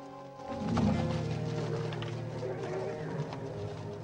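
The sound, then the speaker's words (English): A few horses with soldiers mounted on them stamp and shift their hooves restlessly, with scattered muffled thuds over a low, steady rumble and a faint tonal hum in the background. “Immediately behind them, a small number of soldiers are mounted on horses that shift their feet restlessly.”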